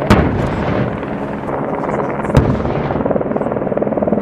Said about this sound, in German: Das explosive Gasgemisch tut einen Knall. Und auch ohne Nähe können sich die Beobachter auf der Terrasse vorstellen, wie die Lawine ins Rutschen kommt durch die künstliche Auslösung.